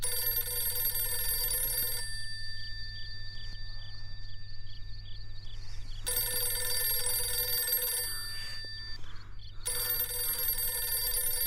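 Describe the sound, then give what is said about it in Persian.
A telephone bell rings in long, insistent bursts, with brief pauses between rings, loud and close, no one answering. “زنگ بزن، هر چقدر دوست داری زنگ بزن، تا صبح زنگ بزنی من دیگه بر نمیدارم.”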